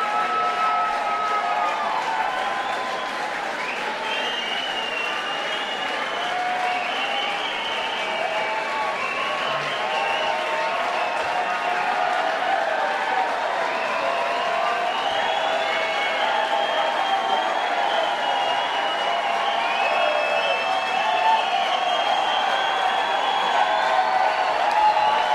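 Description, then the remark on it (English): A large concert crowd cheers and applauds steadily and loudly for about twenty-five seconds, a dense wash of clapping, whoops and shouting voices, with a small swell of extra cheering partway through as a roadie dressed in black comes out to set a guitar back up. “The roadies are all dressed in black with black hats, and that small extra cheer was one of them coming out, setting Jack's guitar back up.”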